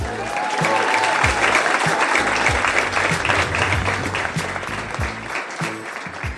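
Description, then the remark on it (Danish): An audience at a comedy show breaks into loud, sustained applause welcoming comedian Victor Lander, a dense wash of clapping that holds steady for several seconds before easing off slightly toward the end. No one speaks over it. “Hvis du har købt ham på Temu, giv en stor hånd til Victor Lander.”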